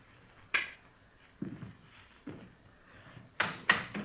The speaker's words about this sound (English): Go ahead, open the door. Go ahead.